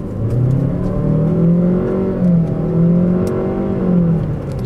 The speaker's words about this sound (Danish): Xtronic betyder, at bilen er udstyret med en CVT-gearkasse, som også er konfigureret sådan, så mange mennesker ønsker det. Nu skal I høre, hvordan det lyder, når jeg accelererer fra 0 til 80 km i timen.